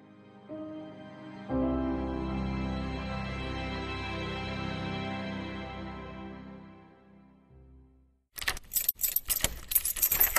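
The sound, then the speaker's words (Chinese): A steady low engine-like hum fades out, then keys jangle and rattle outside a door in a quick run of bright, metallic bursts over the last couple of seconds. “听到门外钥匙的声音，我马上把正在看的网页关掉，然后随便打开了一个视频网站，接着传来了关门的声音。”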